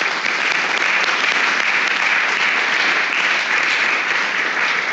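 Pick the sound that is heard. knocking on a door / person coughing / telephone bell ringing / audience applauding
audience applauding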